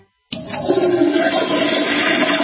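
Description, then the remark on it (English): A toilet flushes, starting abruptly after a brief silence with a loud, steady rushing roar of water that continues without letup. No one speaks. “Are you a man who's hearing this sound more often? Do you wake up several times a night to pee?”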